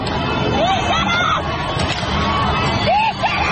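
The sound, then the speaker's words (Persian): A large street crowd of protesters in Iran shouts and roars continuously on Monday evening, a dense wall of overlapping voices with a few higher-pitched cries and whistles rising out of the steady loud din. “از غروب دوشنبه خیابان‌های شهرهای دیگر ایران هم صحنه اعتراضات مردمی شد.”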